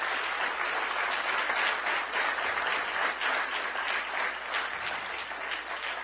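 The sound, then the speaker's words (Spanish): A crowd claps steadily for about six seconds in applause for a group of leaders just named by the speaker, a dense, continuous wash of many hands with no voices standing out, staying fairly loud throughout. “Denle un fuerte aplauso a todos esos líderes que yo acabo de nombrar.”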